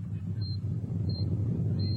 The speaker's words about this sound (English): Another quake. Sounds like it. Hold on.